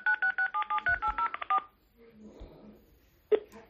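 A rapid series of about a dozen telephone keypad tones, dialing into a telephone conference, short evenly spaced beeps of shifting pitch, followed by quieter line noise and a brief click.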